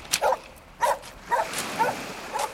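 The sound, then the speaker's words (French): A dog barks five times on a beach by a strand line of seaweed, in a steady rhythm, about twice a second, each bark short and moderately loud against a faint, constant background hiss, with no talking. “Et là, regardez, là on a des algues, on a une laisse de mer que renifle d'ailleurs votre chien,”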